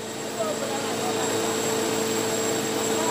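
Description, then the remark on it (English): A hammer mill grinding dehulled sorghum, called musarwa in Tswana, making a steady, loud mechanical roar with a constant droning hum and high whine that holds evenly for a few seconds. “The dehulled sorghum, which is called musarwa in Tswana, then goes into the hammer mill.”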